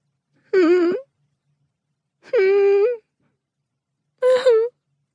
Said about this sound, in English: Whimpers come from the basement. My little feet follow the sound. I'm whimpering myself, but them whimpers from the basement are louder and more in pain.